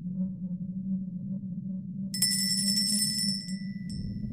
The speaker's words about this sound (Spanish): El tintineo de una campana sonó cuando abrí la puerta de la tienda